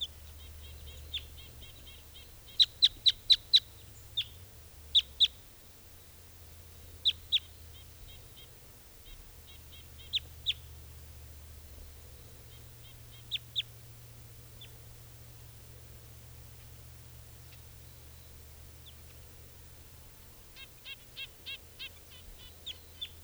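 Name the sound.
wild bird calling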